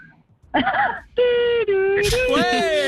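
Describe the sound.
An ambulance worker in a light medical transport car (VSL), not a full ambulance, imitates an ambulance siren with their voice, producing loud, sustained wailing tones in short bursts that hold steady pitches before gliding upward at the end.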